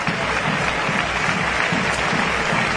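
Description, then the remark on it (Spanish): Sustained applause from a large stadium crowd at a football match as Pedro Pata comes on as a substitute for Iago Díaz, a dense, steady wash of clapping at an even loudness throughout, with no clear voices standing out. “Los aplausos.”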